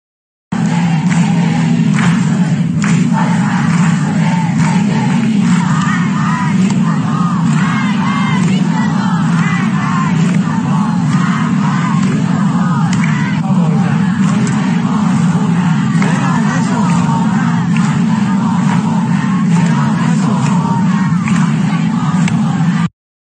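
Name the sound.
crowd chanting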